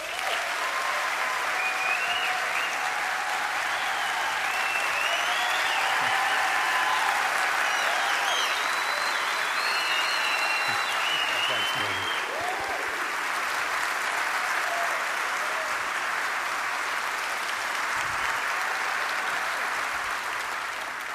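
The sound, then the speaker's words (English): Sustained applause from a large audience as a pastor joins the host on stage, a dense, steady wash of clapping that holds at full strength for about twenty seconds, with a few scattered cheers rising above it. “that was a greater applause than what Shannon Bream got a few weeks ago”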